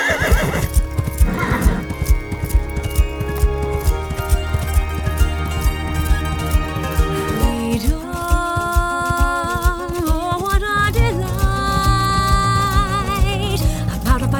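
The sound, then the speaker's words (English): Steady clip-clopping hooves beat a brisk, even rhythm, with a horse's whinnying rising over them partway through, all fairly loud, mixed with a sustained tonal background. “Is there any wonder I'd take a horse and escape into town?”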